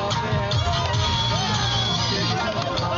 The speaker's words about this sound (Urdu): تماشائیوں کا شور و غل, ہلا گلا, یہ منظر ہے پشاور کے کرنل شیر خان اسٹیڈیم کا, جہاں کرکٹ تو نہیں کھیلی جا رہی لیکن فینس کو اسٹیڈیم میں بیٹھ کر میچ دیکھنے کا موقع پھر بھی مل رہا ہے.